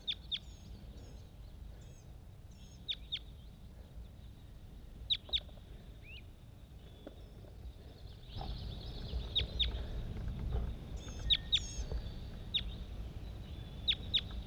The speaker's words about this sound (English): Bird 80. Responding to a whole bunch of other wild birds all over the place.